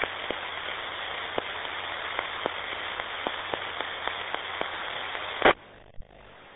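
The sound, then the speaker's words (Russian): Steady radio static hisses from a two-way radio as someone presses the push-to-talk button without speaking, sprinkled with faint, regular crackling clicks, then cuts off abruptly with a sharp click near the end. “Ты вот заходишь, там тангенту нажимаешь, но речи нету.”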